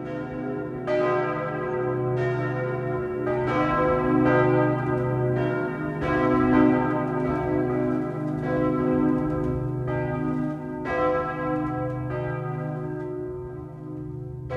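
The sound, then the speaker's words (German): A full peal of the 10 bells in the two east towers of Bamberg Cathedral (St. Peter and St. Georg) rings continuously, with repeated strikes overlapping into a rich, sustained wash of tolling tones. Loud and steady throughout, with no voices. “Das Geläut auf den 2 Osttürmen besteht aus 10 Glocken.”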